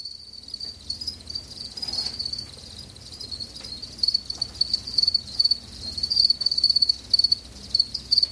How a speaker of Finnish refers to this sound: Viikon luontoääni on kotisirkka. Asunnosta jo kertaalleen kadonnut kotisirkka tekee paluuta lisääntyneiden kosteusvaurioiden myötä.